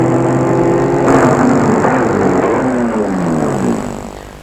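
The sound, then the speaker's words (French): A car engine hums steadily, then its pitch drops as the car slows and comes to a stop in a narrow, dirty, poorly lit street, the sound fading at the end. No one speaks. “Elle va arrêter sa voiture dans une de ces rues étroites et sales.”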